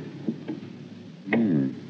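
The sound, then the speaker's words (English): A couple of quick clicks from a door latch being tried on the second floor, followed by a louder clunk and a drawn-out creak as the door swings open, fairly loud. “Try the door.”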